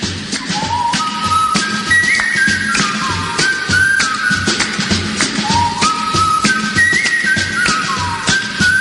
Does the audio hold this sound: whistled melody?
yes